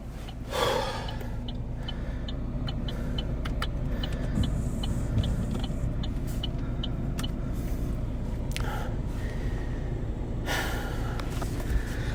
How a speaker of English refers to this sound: So this is me just getting back into the car after some extreme drama. Here we go.